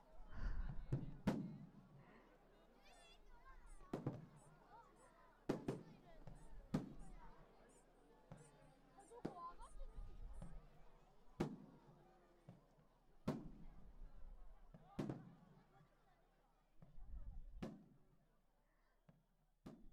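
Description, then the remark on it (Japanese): Fireworks burst again and again at irregular intervals, each sharp bang followed by a low rumble and crackling tail, about a dozen in all, with faint voices beneath. “花火、終わっちゃいましたね。”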